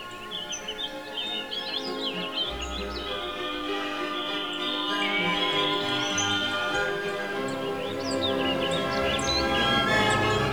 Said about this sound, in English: So Hansel and Gretel just followed a trail of singing birds all the way home.